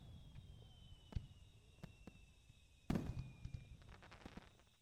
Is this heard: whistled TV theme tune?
no